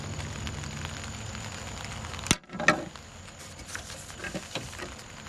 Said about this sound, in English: I don't know if you folks can hear it, but there's a beautiful sound of rain on the top of this awning that is accompanying our worship service this morning.